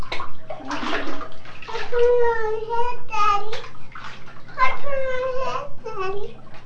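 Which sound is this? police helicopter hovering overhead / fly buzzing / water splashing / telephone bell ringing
water splashing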